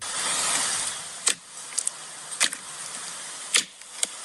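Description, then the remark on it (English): Fingers squishing slime in a relaxation sound clip played on a phone: a soft hiss gives way to a handful of sharp, wet squelches and pops at irregular intervals, each brief and crisp against a quiet background. “That's a squidging. Yeah, it's slime, and they're putting squidging their fingers slime.”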